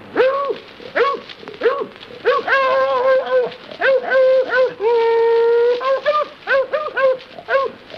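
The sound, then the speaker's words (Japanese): A man's voice, performing alone, imitates a dog chasing and fighting a cat, with a rapid series of loud, pitched barks and yips mixed with drawn-out whining whimpers and howl-like tones, plus audible panting breaths between them. “すごいよ、でもこの真似。”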